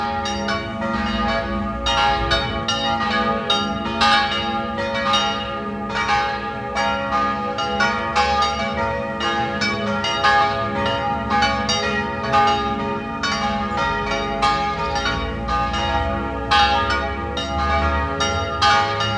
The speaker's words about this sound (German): 12 Uhr. Sie hören die Glocken der Pfarr- und Wallfahrtskirche Kaiser Ebersdorf in Wien 11.